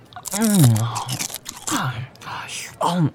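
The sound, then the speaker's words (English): Crunchy biting and chewing of chicken come in three bursts, mixed with sliding, hummed vocal sounds of enjoyment between mouthfuls. “Wow, this chicken is so good.”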